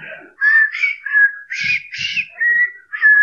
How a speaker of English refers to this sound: Whenever I feel afraid, I whistle a happy tune.